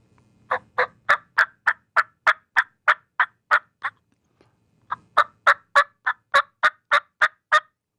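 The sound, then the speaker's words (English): A turkey hen yelp imitated on a hand call: two loud runs of about a dozen evenly spaced, raspy yelping notes, separated by a brief pause, with no talking. “Okay, I'll just do a main yelp, the yelp of a hen.”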